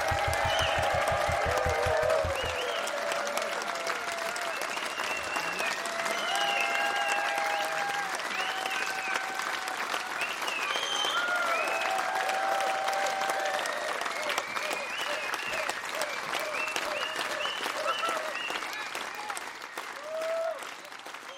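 Sustained audience applause at a concert at the 31st Rudolstadt Festival, a dense wash of clapping that starts after a brief low tail of music and holds steady throughout, fading slightly at the end, with faint cheers and whistles mixed in.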